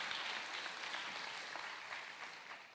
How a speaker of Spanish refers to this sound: Y también quiero darle un aplauso a ustedes, porque sé que vinieron de muchos lugares para poder estar juntos aquí esta mañana, esta tarde.